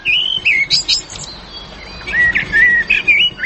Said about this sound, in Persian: ای پرنده ها چطور است؟ پرنده کلش پرنده های خوش آواز است. سایره است، گلسر است، کنری است. شما سیل کنین، خوب سیل کنین، دقیق شوید. ای پرنده ها را از کجا آوردین؟ ای پرنده ها از خارج خریداری شده.